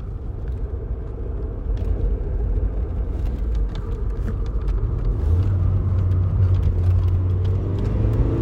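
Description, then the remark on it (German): A car engine rumbles steadily, its low drone rising in pitch partway through as the vehicle accelerates, with a constant whirring road noise throughout and no voices. “Du wirst mit dem Auto beschleunigt.”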